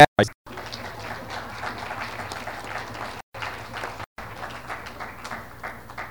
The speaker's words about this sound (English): And all the applause, I think it's also worthy of acknowledgement